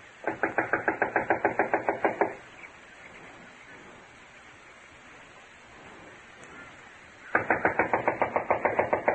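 Two bursts of rapid, evenly spaced knocking on the back door of a run-down, unoccupied house, about two seconds each, separated by several seconds of soft steady hiss with no voices.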